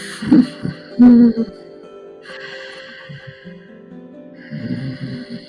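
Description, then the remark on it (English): A person breathes deep and slow only through the nose with the muscles at the back of the throat constricted, making raspy, ocean-like whispering breaths with a snoring edge: a couple of short rough bursts, then longer hissing inhales and exhales, moderately loud with no talking. “Now, I want you to restrict the muscles in the back of the throat to create it kind of like a oceanic whisper, almost like a snoring.”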